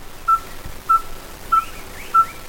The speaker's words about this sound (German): Trotzdem ist gerade der Gesang dieser Vögel für eine internationale Forschungsgruppe von großem Interesse. Denn das hier ist kein Gelbstirnbartvogel, sondern ein Feuerstirnbartvogel.